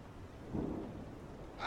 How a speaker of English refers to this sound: Darling, it is tipping it down. It's pouring. It is miserable outside. Drizzle. That is not drizzle. That is sleet.